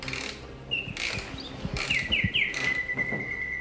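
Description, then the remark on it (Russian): A nightingale sings in clear, bright whistled phrases: a few quick rising notes, then a long sustained trill, over a rustling, noisy background with brief bursts of sound. “Стоило завести игрушечную птицу, и она начинала петь одну из тех песен, которые пел настоящий соловей, и вертеть позолоченным хвостиком.”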